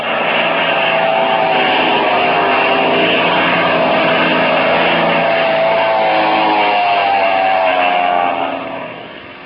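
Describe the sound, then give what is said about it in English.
A loud, droning engine of a black plane diving toward the listeners roars steadily with a buzzing, harmonic whine whose pitch bends slightly as the plane dives, holding strong for about nine seconds before tapering off at the end. “Their plane is diving on us.”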